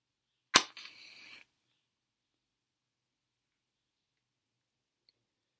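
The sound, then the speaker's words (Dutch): A match is struck to light a candle at the opening of a silent meditation: one sharp scratch and pop, then a short, soft hiss of flame for under a second, followed by silence. “We openen deze stilte meditatie met het aansteken van een kaars.”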